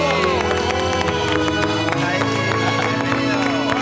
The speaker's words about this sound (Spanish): Quiero que sepas que estamos encantados de que te unas a nuestro equipo y espero que seas súper feliz en Antena 3. Vamos a recibirle con un aplauso.